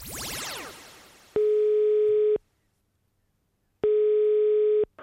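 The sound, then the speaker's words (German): A quick descending swoosh, then two steady telephone ringing tones about a second long each, separated by a pause of silence, as a phone call to a university professor is about to connect. Clear and fairly loud with no voices. “jetzt hört ihr, was er mir am Telefon erzählt hat”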